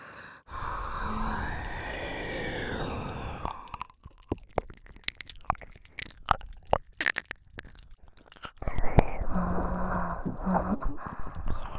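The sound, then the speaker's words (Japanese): Wet ear-licking mouth sounds from a girl: soft slurps and sticky tongue clicks in an uneven, rapid patter, with breathy rustling swells at the start and end. Moderately loud, with no talking. “ああ女の子の水音たっぷりな耳なめやばいね。”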